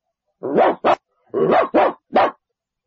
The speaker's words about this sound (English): Dog.